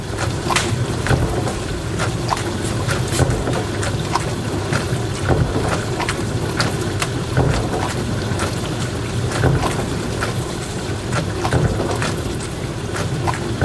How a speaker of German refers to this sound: Und dieses Geräusch wurde dir präsentiert von Spülmaschine. So spritzig, so platsch. Spülmaschine.